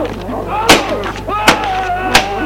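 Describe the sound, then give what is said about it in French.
A woman tries a door locked from the outside, producing three heavy, evenly spaced thuds and jolts about a second apart, with a voice sounding faintly underneath. “Pauline se relève, essaye d'ouvrir la porte.”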